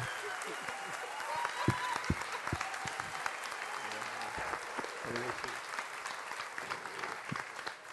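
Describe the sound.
A church audience applauds the Lord steadily during a youth tribute to their pastor, a dense wash of many hands clapping with sharp individual claps standing out, continuing at an even level for several seconds with faint voices mixed in.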